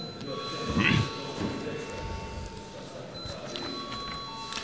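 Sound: parliament voting bell ringing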